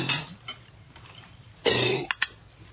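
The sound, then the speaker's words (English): A dog gags and retches on a bone, with a harsh, raspy burst followed by two short, sharp hacking coughs as it brings the bone up, then quiet. “Oh, he's just yakking on a bone. He got it up.”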